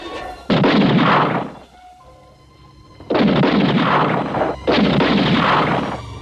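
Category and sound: sound effect, gunshots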